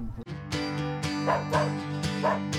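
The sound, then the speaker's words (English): A dog barks playfully in quick, bright yips and bow-wows, several barks in a lively rhythm over a steady low musical hum. “We love the sound of play. That's why when it fades due to joint discomfort, we feel our dog's pain.”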